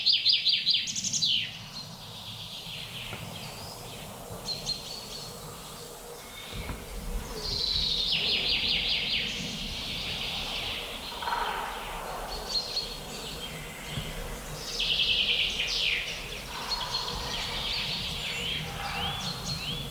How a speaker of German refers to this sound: Ich gebe dem Goldhähnchen jetzt mal kurz eine Chance.